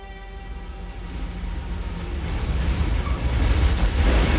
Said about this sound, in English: Let's join the girls now as their bus rolls to a stop in front of her house.